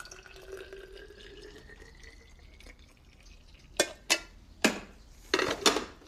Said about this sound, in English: She looks up to see Andy pouring coffee into a thermos.